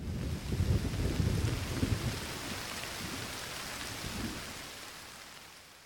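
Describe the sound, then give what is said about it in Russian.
Steady rain hisses throughout while deep thunder rumbles roll in, loudest in the first two seconds, with another low rumble near the end as the storm fades slightly. “Разворчатся в полдень громом облака, спрячемся от молний в доме лесника.”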